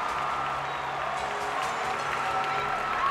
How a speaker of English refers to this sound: Finally, her name is called, prompting a huge cheer from the crowd.